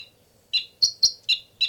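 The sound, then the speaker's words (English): Two birds trade high, sharp chirps: five quick calls in all, some pitched slightly higher than others, coming in a brisk uneven rhythm over quiet background with no talking. “Now both birds.”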